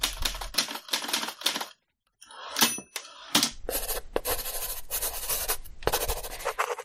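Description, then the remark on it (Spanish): Busy writing sounds: rapid typewriter clacks and keyboard keystrokes mixed with the scratchy rasp of pencil and pen on paper, pausing briefly before resuming steadily. No one speaks. “Máquina de escribir, lápiz, bolígrafo y teclado son herramientas para escribir que hemos utilizado y quizás algún nostálgico sigue utilizando.”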